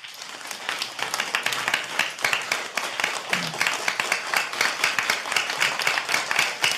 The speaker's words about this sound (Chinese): 谢谢你，哎，这个掌声像就像最近的暴雨一样的，那个。